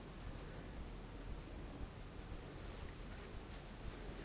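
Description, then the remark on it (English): A mountain stream flows strongly down a valley, its water rushing in a steady, unbroken hiss with no pauses or voices, not loud. “And now becomes a much stronger flow.”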